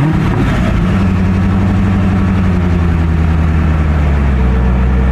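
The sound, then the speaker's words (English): A new C8 Corvette convertible sports car engine rumbles loudly, a deep continuous growl that idles and revs slightly, shifting pitch, with no voices over it. “So let me start with today. I bought a new Corvette.”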